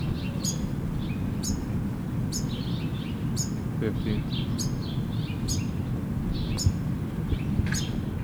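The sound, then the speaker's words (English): Finches chirp in short, high, bright bursts about once a second, with a few softer twitters between them. A voice counts aloud over a steady low background rumble. “How far is in the background? I mean, it has finches.”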